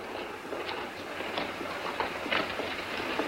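Steady rumbling rail noise fills a busy railway station as a train passes, with scattered clanks and metallic bursts over a continuous low roar, moderately loud throughout.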